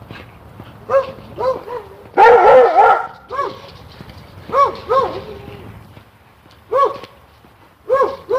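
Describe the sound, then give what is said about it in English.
A dog on the other side of a fence barks repeatedly in short bursts and clusters at a golden retriever being trained to sit at the curb, with a louder, harsher stretch of barking near the start and some low background rumble between barks. “Schooling her golden retriever to sit at the curb in spite of the fact that there's a dog on the other side of the fence barking at it.”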